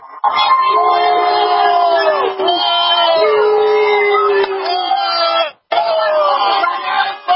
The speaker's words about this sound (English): So as you can hear over here, there's people booing.